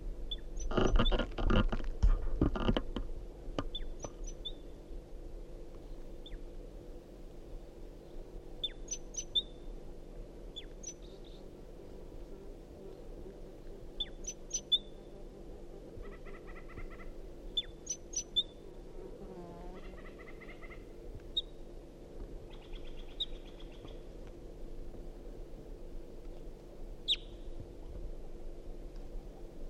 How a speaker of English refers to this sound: Wild bird.